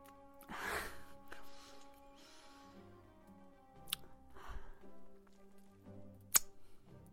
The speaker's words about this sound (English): It's a little gasp of pain there.